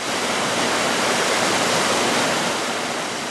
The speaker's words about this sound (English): There's a little pool where water still loses some residual energy, and then it flows through the channel to the point where it is going to be sent back to the river,